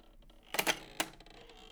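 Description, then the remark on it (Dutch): Sharp mechanical clacks from the hand-turned mechanism of a reed instrument with a bellows: a cluster of loud clicks, then another clack, followed by fainter rattling ticks. No one speaks. “Wat ik dan hoor, is ik hoor een soort klappen. Nou, dat is het mechanisme.”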